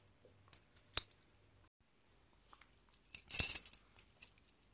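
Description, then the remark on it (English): Keys jangle: two sharp metallic clicks, a pause, then a brief bright burst of jingling that trails off into a few light clinks. They are keys from the Woodside apartment: one opens the building, one the apartment, one is for the trash. No one speaks. “You found those keys? Like the coins.”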